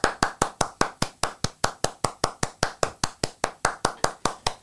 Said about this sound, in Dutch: Dat is het eindapplaus. Ik klap jou toch na.